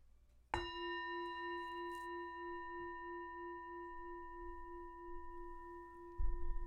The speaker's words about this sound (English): You can find a comfortable way to sit. Start and end with the bell.